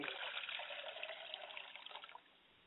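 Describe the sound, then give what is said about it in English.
Liquid is poured out as a libation for a father's spirit in a steady, splashing stream that holds for about two seconds, then thins and trails off. Bright and fairly loud, with no voices over it. “I pour libation for my father's spirit, and we say, Ashe.”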